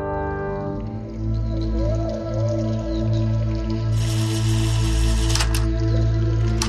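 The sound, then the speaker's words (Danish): Water runs and drips steadily, with a low gurgling hum underneath. Partway through it swells into a louder, hissing rush, with a few sharp splashes near the end. “Hvorfor fortsætter vand ud?”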